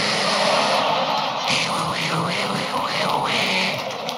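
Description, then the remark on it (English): A voice imitates the roaring whoosh of a motion sensor toilet flushing in a stall: a loud, sustained breathy rush lasting about four seconds, with a few wavering vocal swoops partway through. “It sounds like a jet engine with suction.”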